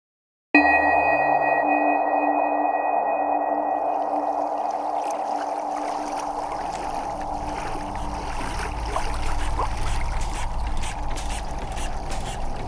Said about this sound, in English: She's cleaning up after breakfast, and he's tending to the boat's noisy engine. A strange engine, with large pipes and valves and wheels, like something out of a history museum.